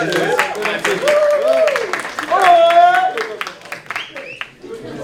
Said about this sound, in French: Je peux vous applaudir en vrai.